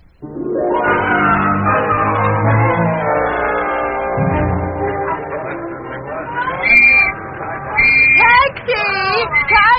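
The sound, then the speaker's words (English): A dense murmur of many voices chattering at once fills the scene steadily at a theater crowd where people are trying to get a taxi, with a few sharp, high whistle-like tones cutting through the crowd noise near the end. “there's no use trying to get a taxi in this crowd.”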